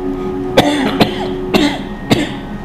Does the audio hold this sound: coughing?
yes